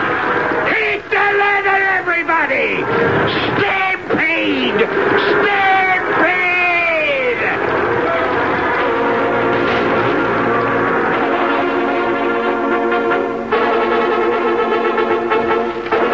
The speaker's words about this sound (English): Stampede! There is no measure of a stampede, no rationale, no reason. The slightest sound, a sneeze, or the rattle of a cook pan is just as liable to set it off as a loud sound, like the screaming of a dude's frightened horse.